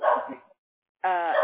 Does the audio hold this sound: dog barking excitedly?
yes